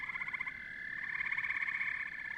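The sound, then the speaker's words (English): A dense chorus of frogs calling together at a vernal pool in the woods, a continuous trilling, pulsing wall of sound that stays steady and fairly loud throughout, with no voices present. “One thing that I really enjoy when it's snowy and you come up on a vernal pool in the middle of the woods and all you can hear is frog calls, like that's one of the coolest things I think you can experience in the woods here.”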